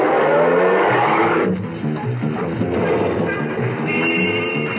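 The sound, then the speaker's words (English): A taxi, flagged down at the corner of 59th Street and Madison Avenue, pulls away and drives on towards Penn Station, its engine and road noise forming a steady, loud rumble with busy traffic sounds around it. No one speaks. “At the corner of Madison, I flagged down a taxi and got in.”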